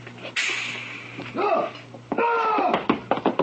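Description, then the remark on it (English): A door bursts open with a sudden rush of noise as someone escapes through it, followed by strained creaking or groaning sounds and a few quick taps and bumps over a low hum. “He made it out the door.”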